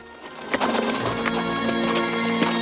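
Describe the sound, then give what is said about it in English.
Horse hooves of Rambo's horse clip-clop along at an uneven walking pace, moderately loud, as a young boy follows it, over a steady humming background with faint sustained tones. “A young boy, no more than 12 years old, drops his rifle and follows Rambo's horse.”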